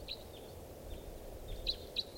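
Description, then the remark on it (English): A bird's flight song: a few short, high chirps spaced unevenly, with the last two notes a bit stronger, over a steady low background rumble and no voices. “Song flight. Here comes the bird.”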